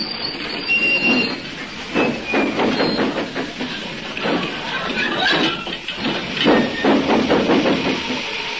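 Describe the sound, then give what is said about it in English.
A steam locomotive with too heavy a load labours to get moving, with heavy chuffs and bursts of hissing steam repeating in an uneven rhythm, along with metallic squeals from the wheels and carriages. “Can't get it started. The load's too heavy.”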